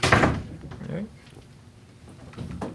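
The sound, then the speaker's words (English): A door slams shut loudly at the very start, followed by quieter shuffling and a second, softer thump near the end, with faint voices murmuring in the background. “Sorry, didn't realize the door was going to pound on.”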